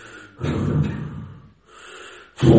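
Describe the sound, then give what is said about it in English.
A man imitates rapid, angry breathing: three forceful, breathy huffs, a strong one, a softer one, then another strong one, with no words spoken. “When a man is angry, and here's the life air, he breathes very rapidly.”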